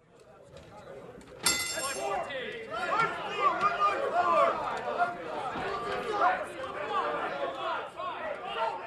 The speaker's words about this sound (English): That's what it used to sound like at the Kansas City Board of Trade in 2008. Traders standing around the pits shouting orders, making those crazy hand signals you've seen in the movies.